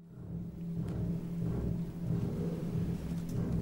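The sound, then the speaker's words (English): A deep, rumbling low bass chord on the piano, carrying the double bass part, opens an aria about Shakespeare's Hamlet. It sounds again and again at a steady, moderate loudness, its low notes ringing together like thunder, with no voices. “The aria starts with this sort of very low bass chord, almost like thunder going off, repeated, sort of very low, and the double bass is in the piano.”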